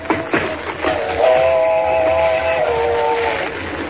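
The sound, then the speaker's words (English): An approaching train's whistle, heard from near the tracks, sounds one long, steady, multi-toned blast over the rumble of the moving train. The whistle holds for about two seconds before tapering off, with no voices present. “Mr. Kent, there she comes. Thank heavens we're near the tracks.”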